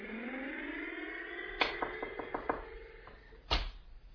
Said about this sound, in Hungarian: Hallod, hogy dohog a motorom?